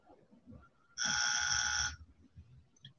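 A single loud, flat buzzer blares for about a second, a harsh sustained tone that cuts off abruptly, with a low murmur of background noise before and after.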